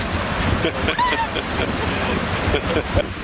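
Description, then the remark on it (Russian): A steady roar of wind blowing over ocean surf, with waves washing in continuously and no distinct breaks, the broad rushing noise filling the whole stretch. “Дует, дует ветерок.”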